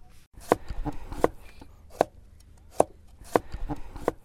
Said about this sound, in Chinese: 在排雷作业手们紧张的工作的同时，蓝线附近响起了只有中国人家里才会有的这种切菜声。是的，这就是中国排雷队的炊事员们正在给作业手们准备午餐。